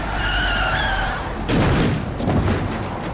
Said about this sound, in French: Imaginez que l'auditeur soit plongé dans l'ambiance sonore d'une rue animée. Soudain, le crissement des pneus.